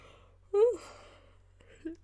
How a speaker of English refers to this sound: Can't stop yawning.